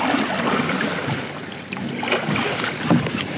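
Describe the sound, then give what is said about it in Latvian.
Paddles splash and churn water as boats are paddled toward the shore, with a few sharper strokes breaking through a steady wash of water and light wind noise, fairly loud. “Airējam pie krasta un nesam laivas pāri.”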